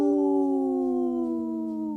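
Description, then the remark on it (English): A voice imitates a wolf howl on the Native Roots Radio show: one long, steady, loud tone that holds its pitch and slowly slides lower over about two seconds, with no talking over it. “The howl called my dog over here, so she's ready to join the pack.”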